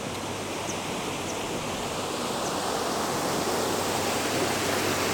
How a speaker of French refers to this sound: Le ruisseau paraît très bas.